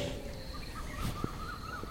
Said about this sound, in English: That's a quail.